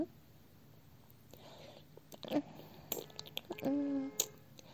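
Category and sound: human body sound, wet licking sounds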